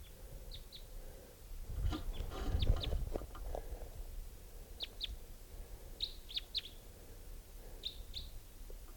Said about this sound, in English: I think they're type 3s. Here's the other bird. Caught one of them.